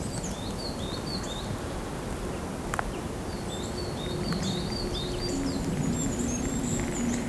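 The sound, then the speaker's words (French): Scattered bird chirps and short tweets ring out in the quiet of the mountains, over a soft steady background hush with no talking. “Quelques gazouillis d'oiseaux dans le silence de la montagne.”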